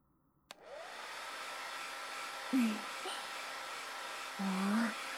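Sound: hair dryer blowing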